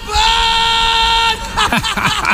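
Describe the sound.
Heavy metal rock music played in the background on WMFO radio in Medford opens with a loud, sustained, harmonically rich wail lasting about a second, then people talk over it as the music continues underneath.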